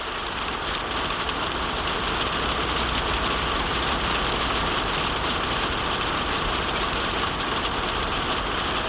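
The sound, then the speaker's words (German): Steady rain patters on a tin roof, a dense, even hiss of drops that holds at one level throughout, with a faint low rumble underneath and no voices. “für mich ist sanfter Regen, der auf das Dachfenster prasselt und man selbst liegt eingekuschelt im Bett, schreibt sie in der Studio-Message.”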